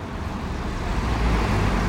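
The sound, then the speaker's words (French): A car overtakes a cyclist on the right at a traffic light on place Albert Ier in city traffic, its engine rumble and road noise swelling slightly over a steady background of traffic, with no one speaking. “Il y a une voiture qui me double à droite, donc il va falloir savamment se placer au prochain feu, en faisant gaffe aux voitures qui arrivent par derrière”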